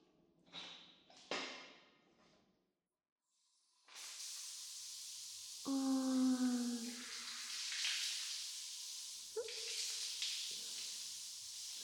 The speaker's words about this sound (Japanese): それじゃあ、シャワーで流してあげるね。